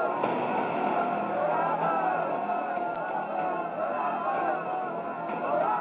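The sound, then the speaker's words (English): A dense crowd clamors continuously, depicting the crowd before Pilate shouting for Barabbas, many overlapping voices shouting and murmuring together in a steady, unbroken wall of noise that never drops away. “One theory would be that the crowd that clamors for Barabbas were stirred up by the religious authorities.”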